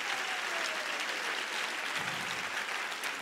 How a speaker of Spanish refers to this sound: Y si usted lo cree, dele un mejor aplauso al Señor de ahí.